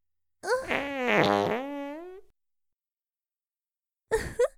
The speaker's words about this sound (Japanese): なんてお下品な音。音だけでとても臭いおならだということがわかります。